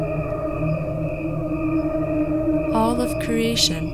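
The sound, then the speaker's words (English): A recording of cricket chirping, slowed down to the equivalent of a human lifespan, turns into a steady, layered harmonic drone with an almost choir-like hum, joined near the end by brighter warbling swells and pulses, with no instruments or voices added. “One is played at regular speed and the other is a slowed down version.”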